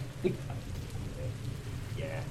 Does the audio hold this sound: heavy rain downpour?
yes